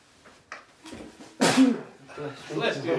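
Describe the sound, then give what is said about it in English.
A single loud, sharp sneeze, held in for a long time by a person with a cold, bursts out after a few quiet sniffs and breaths, followed by breathy, voiced exhaling sounds as it trails off. “I was holding the sneezing for a long time.”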